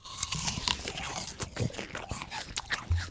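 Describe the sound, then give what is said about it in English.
Several people bite into crisp Honeycrisp apples simultaneously, sharp wet crunches followed by steady chewing and crunching, with no talking. “we're all going to bite into our apples the simultaneously”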